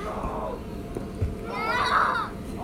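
Children playing inside a bounce house, with overlapping high-pitched shouts and squeals rising into a louder burst of excited voices midway, over a steady low rumble and occasional thumps; birds can also be heard.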